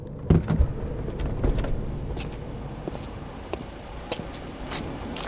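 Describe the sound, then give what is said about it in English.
A car's low engine rumble settles as the vehicle comes to a halt, with a few sharp clicks and knocks from inside the cabin scattered over the steady hum. “Stop the car!”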